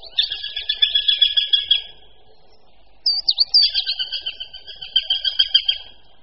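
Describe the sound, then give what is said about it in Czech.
A female Eurasian sparrowhawk calls to a male in two bouts of rapid, repeated high-pitched notes, each lasting about two seconds with a short pause between, clear with no talking. “Ku příkladu takto volá samice na samce.”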